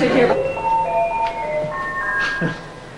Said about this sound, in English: Outside, Griffin rings the doorbell.